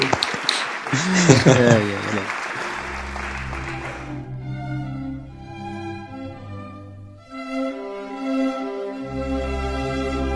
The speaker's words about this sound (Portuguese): Até palmas